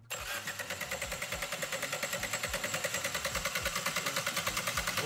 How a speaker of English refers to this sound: Okay, let's start by simply turning the engine over. We'll look on and see how the pump performs its duties. How quick it picks the oil up. See what happens to the level.